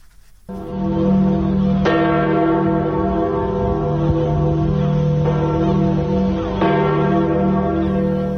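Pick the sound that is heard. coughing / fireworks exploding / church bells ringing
church bells ringing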